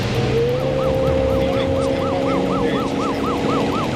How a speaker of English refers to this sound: Here we are in Rogersville, Tennessee. A patrol car passes a carload of teenagers.